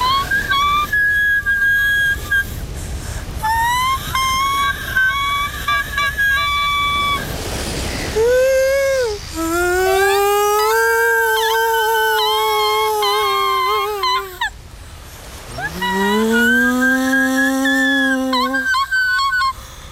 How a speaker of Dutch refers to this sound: Ik heb daar een cd van met walvisliederen. Daar kan je heel goed mee slapen.